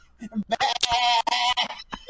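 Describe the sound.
A person imitates a sheep, letting out a couple of loud, wavering bleats with a quivering nasal tone between short breaths.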